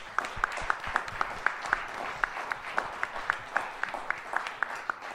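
Audience applause: steady, evenly spaced claps, about four per second, standing out sharply over a soft, constant background wash, with no one talking.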